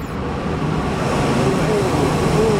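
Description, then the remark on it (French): A loud, unbroken roar of data center server cooling fans from entire walls of fans with small yellow and black wires in a data hall, a dense steady whoosh that never rises or falls, with faint humming tones drifting through it. “Impressionnant le niveau de bruit à ma gauche et à ma droite. Des murs entiers de ventilateurs avec des petits fils jaunes et noirs.”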